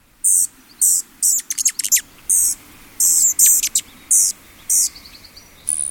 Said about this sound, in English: Hardly has a bird poised before a spray of blossoms before another feathered atom dashes toward the first, and the two are off in a tempest of angry squeaks.